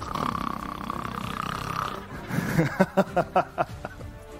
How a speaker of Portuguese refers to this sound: Grava o seu ronco, inclusive. Cria provas contra você. Você está roncando.